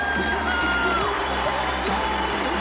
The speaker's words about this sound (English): I want you to put your hands together and welcome him to the stage. Big round of applause.